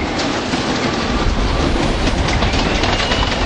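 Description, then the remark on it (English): An F subway train rumbles steadily along the tracks on the ride from Carroll Gardens in Brooklyn out to Coney Island, a loud, continuous roar with a rhythmic clickety-clack of wheels and no voices. “From Carroll Gardens in Brooklyn, it's a 45-minute ride on the F train out to Coney Island.”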